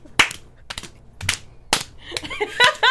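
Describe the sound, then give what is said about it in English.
A handful of sharp, irregular hand claps ring out one at a time with short gaps between them, followed by a burst of laughter and chatter. “Actually, it's smart, though, because if you're clapping a lot, my palms always get tired.”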